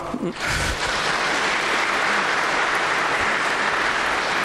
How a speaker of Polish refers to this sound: Tu by też były potrzebne chyba brawa